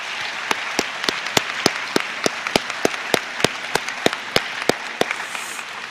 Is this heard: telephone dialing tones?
no